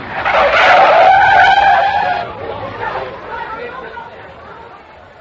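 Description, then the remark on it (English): A car's tires screech in a long, loud skid lasting about two seconds as it brakes hard when a man runs straight into it while it is accelerating. The squeal wavers in pitch before fading into a lower rumble with muffled voices beneath. “Well, he ran straight into us, just as we were accelerating. I tried to stop him.”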